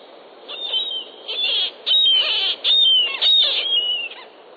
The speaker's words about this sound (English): murrelet is a small, endangered seabird that nests in old coastal forests on the west coast.